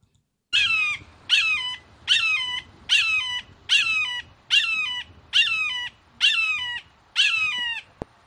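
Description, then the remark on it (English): A red-tailed hawk calling: nine loud, harsh, high-pitched squawks repeated at a steady pace, each with a strained, slightly falling tone, with no voices. “That was an American eagle.”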